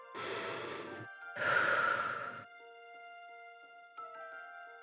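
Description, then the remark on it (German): A person draws a deep breath in during a guided breathing exercise and releases it in a long, audible exhale, fairly loud, followed by quiet sustained tones ringing on alone with a faint soft tap near the end. “Atmet einmal tief ein und wieder aus.”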